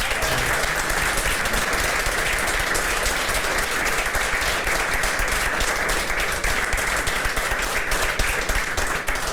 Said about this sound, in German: Applaus